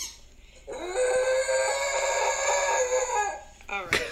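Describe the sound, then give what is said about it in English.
A Shiba dog lets out one long, loud howl, rising at the start, holding a wavering tone for nearly three seconds, then trailing off before a brief sharp yelp. “Do you like your new toy? I will howl into the depths of nothingness!”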